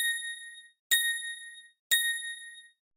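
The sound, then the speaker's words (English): Three clear bell-like pips strike one second apart, each a bright metallic ding with a sharp attack that rings and fades before the next: a Tinkerbell speaking clock's time signal, the third bell marking 7 o'clock and 30 seconds. “At the third bell, the time will be 7 o'clock and 30 seconds.”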